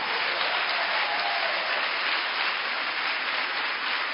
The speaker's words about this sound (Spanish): Vamos, dale un aplauso.